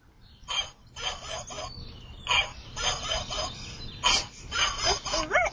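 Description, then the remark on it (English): A dog lets out a string of short, rough barks at an irregular pace, ending with a high, wavering whimper. “Dog ocean. Does it make noise? Yeah.”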